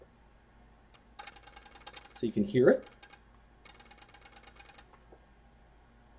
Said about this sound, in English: And so we'll go ahead and deploy this again with everything wired up as we did before. And we should hear this clicking pretty rapidly now.